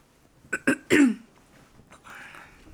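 throat clearing

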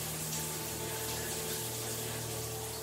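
shower water running

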